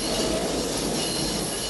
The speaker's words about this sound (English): Lightning flickers across the night sky as an L train arrives at a station.